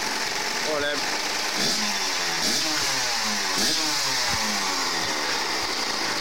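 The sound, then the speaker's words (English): A Kawasaki motorcycle engine is revved repeatedly in a backyard, its pitch sweeping up and down in several sharp bursts over a steady, loud idle. “When he's not encouraging his mates to rev up a Kawasaki motorbike in his backyard.”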